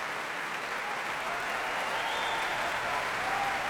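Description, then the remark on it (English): A large concert audience cheers William Morley, the 18-year-old principal trumpeter of the National Youth Orchestra, from Manchester, a dense, even roar of clapping that holds at full strength throughout, with faint cheers and whoops rising through it. “That cheer for William Morley, 18-year-old from Manchester, who's principal trumpeter in the National Youth Orchestra.”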